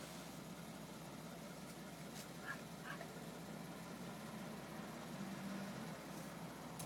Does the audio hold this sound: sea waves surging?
no